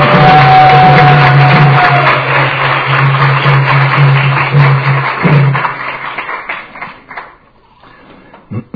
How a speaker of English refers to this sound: You should give them a big round of applause for enthusiasm.